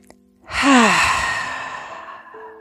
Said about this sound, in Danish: Sidste fulde vejrtrækning.